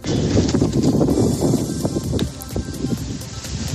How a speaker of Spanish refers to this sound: El viento, que así sopla ya de fuerte hasta ahora en el centro de la capital, se pueden alcanzar rachas de hasta 60 kilómetros hora, de 80 en la Sierra Madrileña.